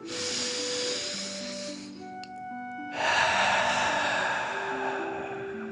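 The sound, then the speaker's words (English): A long, airy breath drawn in for about two seconds, a brief pause, then a slow, steady breath out, both soft hissing rushes over quiet sustained musical tones. “Last one, fill up your chest and belly, deep breath in and out.”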